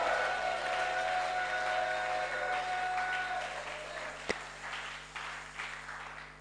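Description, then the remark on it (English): A church audience claps and shouts to God's glory at the preacher's call, a dense, steady wash of many hands with raised voices mixed in, gradually thinning toward the end, with one sharp louder crack partway through. “If you know there's a calling on your life, and there's an anointing on your life, can you shout aloud and clap to God's glory?”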